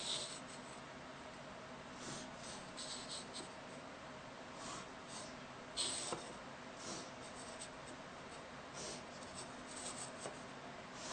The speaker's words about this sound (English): And then use your ruler. I like to put the pencil right on that point, and then use the ruler, push it right up to the pencil, and run up to the letters' corners.